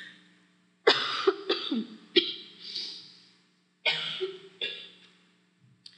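Two loud fits of harsh coughing, each a quick run of three or four coughs, separated by a short pause, over a faint steady hum.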